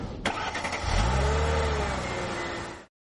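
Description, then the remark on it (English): A car engine, for a drive with Vikings rookie tight end David Morgan, cranks and catches, then revs up with a deep, rising roar that settles into a steady, loud hum before cutting off abruptly. No one speaks. “Well, before the season started, I got an opportunity to drive around with David Morgan, a rookie tight end who you're really going to like.”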